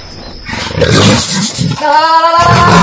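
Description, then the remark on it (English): A wild female jaguar named Minnie, from Argentina, lets out loud, rough roars and growls in several harsh bursts, ending in a strained, tonal snarl. No one speaks. “This beautiful big cat is a wild jaguar.”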